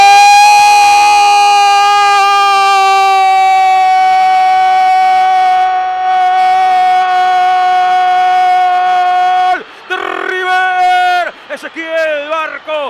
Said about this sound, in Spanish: Silbidos que bajan de todos los sectores de la cancha.